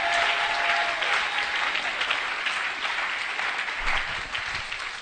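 An audience claps their hands in a steady, dense burst of applause that holds strong for about five seconds, tapering only slightly toward the end, with no voices standing out.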